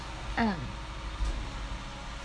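A heavy truck rumbles past outside, a deep steady roar that fills the whole moment, with a brief higher, falling tone rising above it near the start.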